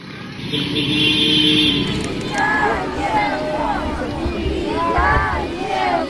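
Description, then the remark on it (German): A crowd shouts and cheers "welcome home" outdoors at 7 pm, several voices calling out together over a steady rumble as buses and ambulances carrying soldiers and civilians freed from Russian captivity turn onto the grounds of the hospital in Chernihiv, Ukraine, loud throughout. “Willkommen, willkommen zu Hause, ruft die Menge, als endlich die Busse und Rettungswagen auf das Gelände des Krankenhauses von Tschernihiw biegen.”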